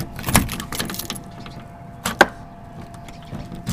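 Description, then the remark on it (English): Keys jangle briefly as a door is locked, with a short metallic rattle early on and a sharp click-clunk of the lock a couple of seconds later over a low steady hum. “I'll go ahead and lock the door here.”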